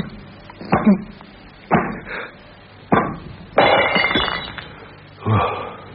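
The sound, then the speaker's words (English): Window glass breaks as it is struck with elbows, in a series of sharp crashes spaced a second or so apart, each followed by a brief tinkle of falling shards, with one longer shattering burst in the middle. “Lucky I got strong elbows. Now, if I can turn my back to the broken glass, I could rub the rope on it.”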